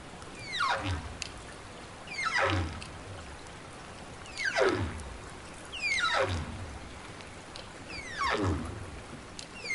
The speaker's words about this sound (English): And if a whale is singing a full song, it takes about 15 minutes to do that. And then he comes back to the surface and starts again.